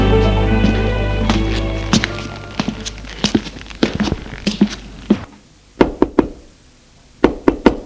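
Knuckles rap on a wooden door in sharp, hollow knocks, first scattered over a fading low hum, then two clear sets of three loud raps with pauses between them.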